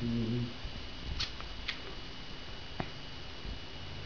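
Quiet rustling of fabric as Mario the dog wriggles around inside a bedsheet he has wrapped himself in and cannot get out of, with a few sharp little scuffs and ticks scattered through. A brief voice murmurs at the very start.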